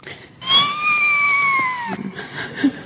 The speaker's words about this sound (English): That was a better timed kitten mew. Yeah, that was much better.